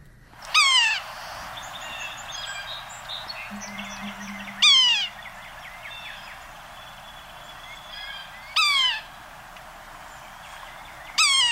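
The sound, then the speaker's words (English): A yellow-bellied sapsucker, a member of the woodpecker family, gives loud, nasal, downward-sliding mewing calls, four of them spaced about four seconds apart, over a steady background of birdsong and chirping. “The bird is the yellow-bellied sapsucker, and let's listen to one here.”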